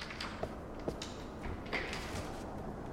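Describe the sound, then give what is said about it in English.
A door being opened: a few quiet clicks and knocks from the latch, then a short scraping swing, all faint against a steady hiss with no voices. “I'm opening the door.”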